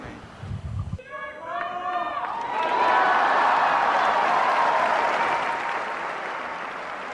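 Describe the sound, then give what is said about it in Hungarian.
A brief sung or chanted Latin blessing gives way to a large crowd erupting into loud, sustained applause and cheering for Pope Francis's blessing, rolling on steadily from around the halfway point onward. “A mai napon is tapssal és örömújongással köszönjük meg Ferenc pápának az áldását, a tanítását.”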